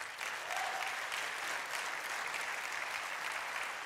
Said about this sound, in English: Let's give our God an applause.